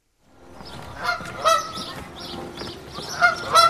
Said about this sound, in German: Eine Gans, kanadische Wildgans. Ja, das ist sie, genau.